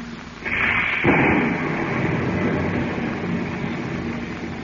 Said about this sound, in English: You were not aware that each moment also carried you closer to the center of a heavy storm that thundered over the vast Pacific. Yes, soon even the plane's pilot became concerned with the tempest that raged around them.